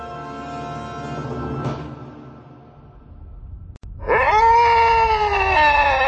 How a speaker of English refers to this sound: In the hall beyond the interrogation room, Carrot paused long enough to savor her former master's screams before continuing on.